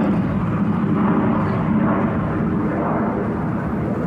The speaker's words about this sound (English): we got a jet going. I think we better take it. We can stop.